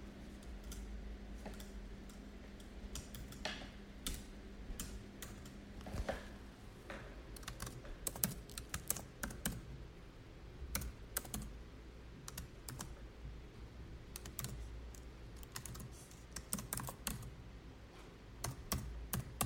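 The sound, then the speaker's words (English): Rapid, irregular keystrokes clatter on a computer keyboard as code is typed in SuperCollider, a steady stream of sharp clicks with brief pauses, over a low hum, with no one speaking. “Type this.”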